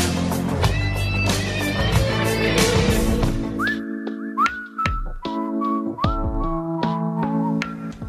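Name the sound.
whistling in the background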